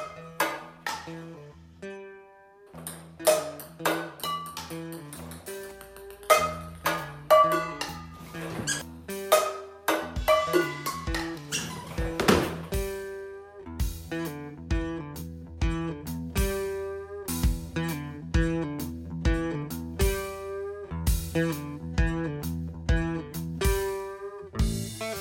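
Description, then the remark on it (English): A giant orange mascot bounces ping pong balls off pots and pans in a quick, steady run of sharp metallic tings and clanks at shifting pitches, almost like a plinking tune, with no voices. “I can't guarantee that it will be quite as entertaining as watching a giant orange mascot bounce ping pong balls off of pots and pans”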